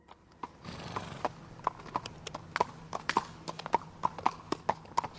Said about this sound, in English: His footsteps sounded different, and soon the hooves came into view.